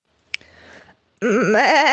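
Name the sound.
sheep bleating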